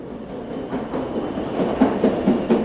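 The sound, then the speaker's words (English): Inside a moving new Orange Line subway train car: a steady low rumble fills the space, with faint rhythmic clacks and rattles from the wheels and car body building slightly louder toward the end. No voices. “As soon as you step on board, you can't help but notice how different this new train is from the others on the Orange Line.”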